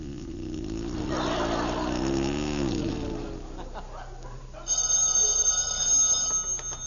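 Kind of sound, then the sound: household object, telephone ringing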